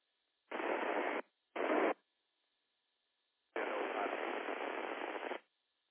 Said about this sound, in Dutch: Oh, dat station zat diep in de ruis. Als je dat vermogen kan bijzetten, dan zal dat nodig zijn.